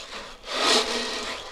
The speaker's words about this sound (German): Die Partygäste bilden nämlich zusammen ein Geburtstagsorchester mit Gitarre, Cello und einer Trommel, die mit kleinen Körnchen gefüllt ist. Und was macht man mit der? Den Wind und den Regen.